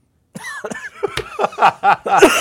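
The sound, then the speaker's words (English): A burst of several loud coughs in quick succession, harsh and throaty, with a short silence before they begin and no talking over them. “There is no cough button. Yeah. That's, see, if we... We'll have to edit that.”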